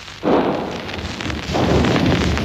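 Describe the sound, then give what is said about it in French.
Two heavy blasts of enemy cannon and French carbine fire, alternating almost without pause in street fighting in a working-class district of Paris during its liberation, sound about a second apart, each followed by a rolling rumble over continuous battle noise, with no voices. “Vous pouvez entendre le canon ennemi et le mousqueton français qui alternent presque sans interruption.”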